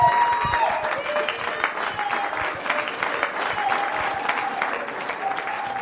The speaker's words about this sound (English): It's a real privilege that I have to be able to walk him up here, and I'm inviting him to speak to you guys. So could you guys give him a round of applause as I welcome him up here?